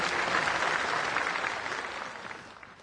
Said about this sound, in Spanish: Comenzamos agradeciendo a Monseñor Miguel Ángel Cabello, obispo de Villarrica, por presidir nuestra Santa Misa, por sus orientaciones, por sus reflexiones. Un fuerte aplauso al querido Monseñor por acompañarnos. Muchas gracias.